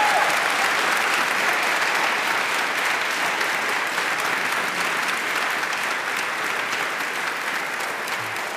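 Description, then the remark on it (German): An audience applauds its guest steadily for several seconds, a dense, even wash of clapping hands that holds at a consistent loudness throughout, with no voices standing out. “Und wir freuen uns riesig und ich glaube, das ist nochmal ein Moment, wo Sie sich als Publikum vielleicht einmal bemerkbar machen können und uns eine Runde Applaus hier vor allen Dingen an unseren Gast geben können.”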